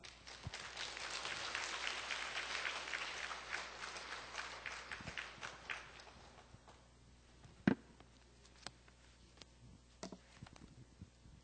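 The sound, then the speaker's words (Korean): A church audience breaks into steady, dense applause for about six seconds, welcoming the high school department pastor before his first sermon, then the clapping thins out to a few scattered claps and soft thumps. “그래서 오늘 우리 박수로 오늘 환영하도록 하겠습니다.”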